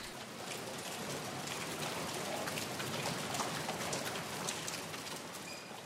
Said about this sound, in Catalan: Sí, escolta el so de la pluja.